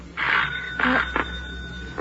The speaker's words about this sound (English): The doorbell.